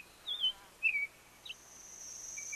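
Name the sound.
red-winged blackbird song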